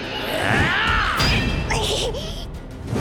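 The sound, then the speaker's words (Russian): Sword blades clash in a loud exchange: a sharp metallic strike rings out, followed by a second ringing impact as the blow is deflected by the other blade, amid a dense, noisy background. “Даже удар моего меча смог отразить.”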